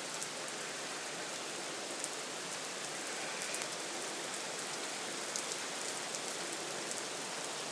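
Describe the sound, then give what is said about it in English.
A dense, steady roar of heavy rain pouring down without a break, thick, with massive, big fat drops spattering more loudly on a surface. No voices. “This is just crazy rain.”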